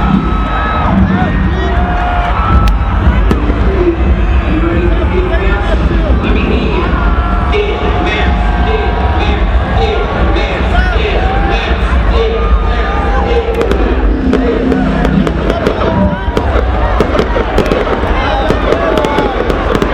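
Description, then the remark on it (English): Fireworks pop and crackle in repeated bursts over the steady roar of a large crowd, with scattered cheering and voices mixed throughout the loud, dense outdoor scene. “There's lots of fireworks.”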